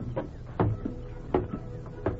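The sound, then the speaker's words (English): The heavy door of the Granville jail swinging open at dawn, heard as a series of wooden knocks and creaking clunks in an uneven rhythm over a low steady hum, with no voices. “Just as dawn was breaking, the door of the Granville jail swung open”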